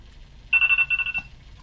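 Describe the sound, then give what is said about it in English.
A phone's morning alarm rings in a quick burst of bright, high-pitched electronic pulses, several rapid trills over about half a second, then stops, with a low rumble underneath and no talking. “Did you hear that? My morning alarm.”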